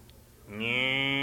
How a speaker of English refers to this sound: Cows.